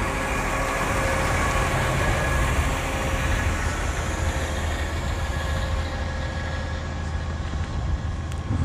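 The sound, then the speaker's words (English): A garbage truck's engine runs as someone walks past it, a steady, loud diesel rumble with a droning hum that holds unchanged throughout, and no voices. “Walking past this trash truck.”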